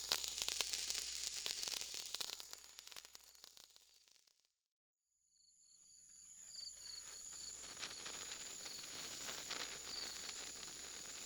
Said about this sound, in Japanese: 線香花火って私好きだな。小さくて可愛くて、でもなんだか寂しい気分になっちゃう。